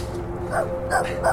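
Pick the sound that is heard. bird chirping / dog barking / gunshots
dog barking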